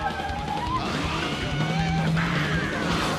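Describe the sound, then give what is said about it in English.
Car tires squeal as a vehicle whips around a corner while chasing people down a suburban street, a high, wavering screech riding over a steady engine roar, with a sharp, brighter squeal rising midway through. “Burning rubber around a corner, he follows them down a suburban street and onto the sidewalk, taking out a mailbox, then chasing them around a tree.”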